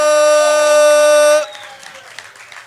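A loud, steady horn-like blare with rich harmonics holds for over a second, then cuts off and gives way to quieter, scattered audience applause and crowd noise, welcoming the comedy group Eso Es as the day's guests.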